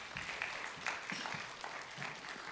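A crowd claps for the reader after a Bible reading, a dense patter of many hands at moderate volume that holds evenly throughout without fading or swelling.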